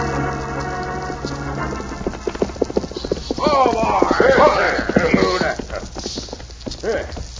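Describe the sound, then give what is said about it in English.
Rapid, rhythmic hoofbeats of a galloping horse on a fast ride pound steadily from start to finish, fairly loud, with voices and other sounds rising over the middle stretch; the horse is nearly winded. “Yeah, it's a mighty fast ride, Badger. This horse of mine's most winded.”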